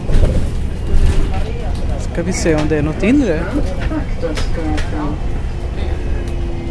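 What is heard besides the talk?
inside a moving bus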